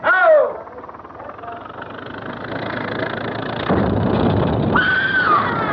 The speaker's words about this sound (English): What was that? What was what? Didn't you hear it? Somebody screamed.